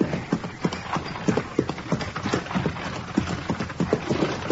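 Steady clip-clop of hooves from a horse-drawn buggy carrying riders, a brisk, even trotting rhythm, fairly loud, continuing throughout with no voices over it.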